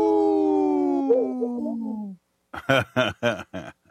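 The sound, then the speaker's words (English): A person imitates a wolf howl: one steady, fairly loud two-second wail that slowly slides downward in pitch and trails off, followed after a short pause by a few quick spoken words. “That was a little weak Wisconsin. There we go. Oh, it was a little baby. A little pup.”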